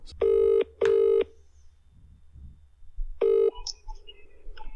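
A telephone ringback tone purrs in a double burst as a prank call is placed to a tattoo shop, pauses for about two seconds, then starts ringing again. A few faint electronic chirps follow on the line.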